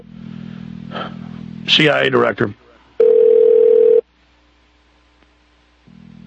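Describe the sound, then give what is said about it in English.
A short burst of speech, then a phone line ringing: a single steady electronic ringback tone lasting about a second, followed by a quiet pause, with a low hum before and after. “It's ringing. It's ringing. It's ringing.”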